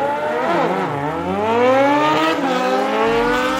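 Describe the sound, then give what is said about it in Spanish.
Several MotoGP racing motorcycle engines at the Portugal Grand Prix at the Portimão circuit scream loudly, their high-pitched whine rising and falling as they roar past in quick succession, with no voices over the continuous engine noise. “vamos ahora con las motos.”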